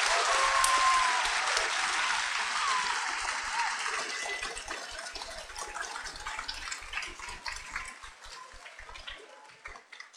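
Students at Mariah Central School give a sustained round of applause to thank an astronaut on the International Space Station after an ARISS radio contact. Dense overlapping claps stay loud for several seconds before gradually thinning out and fading, with no one speaking.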